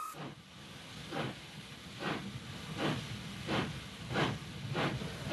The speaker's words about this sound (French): Ah, écoutez ce son qui est doux à nos oreilles. Eh ben oui, évidemment, c'est la machine à vapeur.